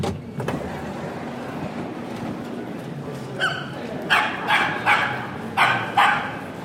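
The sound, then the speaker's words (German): A dog barks repeatedly in short, sharp bursts, about six barks in quick succession, fairly loud over a steady background rumble like traffic or a moving vehicle. “Dieser Hund, der hat mir gerade den Rest gegeben irgendwie.”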